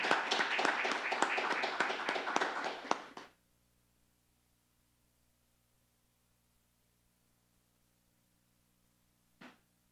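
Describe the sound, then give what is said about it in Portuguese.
An audience bursts into loud, dense applause for about three seconds for a man being honoured at a tribute ceremony, then it cuts off into near silence with a faint low hum and one brief knock near the end. “Pedimos uma calorosa salva de palmas.”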